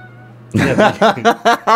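A cat lets out a rapid run of about five loud, close meows, one after another, following a brief stretch of quiet room hum.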